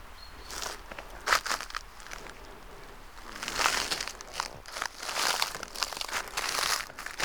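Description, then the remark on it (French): Footsteps crunch steadily through a carpet of dry dead leaves in the mountains before the first snows, each step a crisp, rustling crinkle, fairly loud, with no voices present. “Avant les premières neiges, ce tapis de feuilles mortes.”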